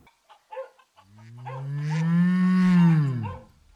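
A cow lets out one long, deep moo lasting a couple of seconds, rising and then falling away. A few soft knocks and shuffles come just before it. No one speaks.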